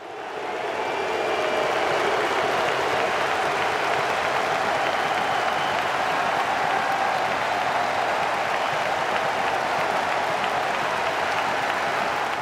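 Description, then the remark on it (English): A large crowd of fans, players, coaches and the referee applauds steadily after play stops on the pitch at 10 minutes, in tribute to Denmark's Christian Eriksen. A dense wash of clapping swells in the first second and holds loud and even, with faint cheering tones threaded through, and no one speaking. “And the fans, players, coaches and referee gave a round of applause.”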